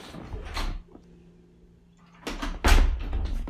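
A door is opened: a brief rattling click, a quiet pause with faint low hum, then a louder thumping, scraping swing of the door. No voices.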